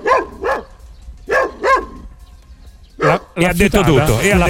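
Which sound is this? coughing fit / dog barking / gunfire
dog barking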